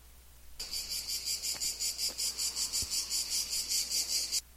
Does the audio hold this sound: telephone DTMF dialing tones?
no